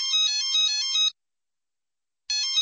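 A mobile phone rings with a bright electronic trill, one burst of about a second, a pause, then the ringing starts again. Loud, with no voices.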